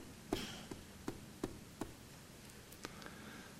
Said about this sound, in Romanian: Cineva bate la ușă.